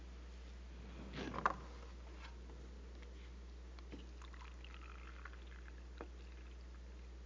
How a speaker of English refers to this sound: Okay, this is peroxide. Put it in. Just pour it in.